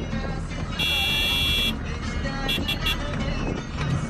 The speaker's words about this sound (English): Travelling in motorcades of up to five cars at a time, these oversized vehicles churn through the sand and mud, making deep tracks and plenty of noise.